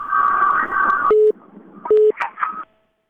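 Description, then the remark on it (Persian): A crackly, noisy phone line gives way to two short, steady electronic tone pulses of the same pitch, like a busy signal, fairly loud, as a listener's call-in phone call is cut off by technical problems. “خب تلفن چون قطع شد فکر میکنم به هر حال اندکه گاگای مشکلات تکنیکی پیش میه و شنونده ها انتظار میمانن.”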